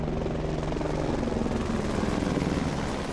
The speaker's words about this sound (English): A bugle sounded taps at the end of the service, and then police and rescue helicopters flew over in formation.